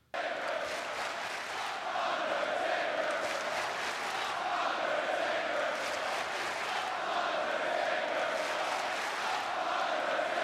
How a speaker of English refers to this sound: As of course, the night after WrestleMania, the Raw after WrestleMania. Essentially, the crowd cut half this promo. 95% of this promo. It is Undertaker and Roman sucks as they just let this crowd broil.